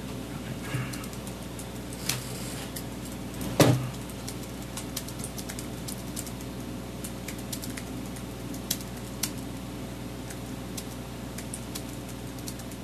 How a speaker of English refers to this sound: Colby's now going to type for the remainder of the show